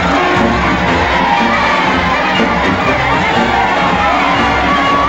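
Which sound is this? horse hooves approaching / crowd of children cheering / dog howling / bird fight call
crowd of children cheering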